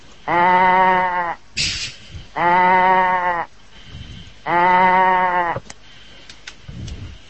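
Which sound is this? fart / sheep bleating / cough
sheep bleating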